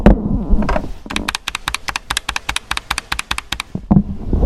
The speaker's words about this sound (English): I've been using keyboards for most of my life at this point, and this is the best keyboard I've ever put my fingers on. It is just magical. First off, mechanical keyboard, and it's not super loud.